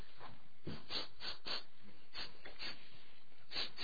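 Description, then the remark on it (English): A preacher during a sermon repeatedly sniffs and snorts through his nose, imitating God smelling the air, in a series of short, breathy bursts with no words spoken. “He's saying this, when we preach the gospel, God is sniffing.”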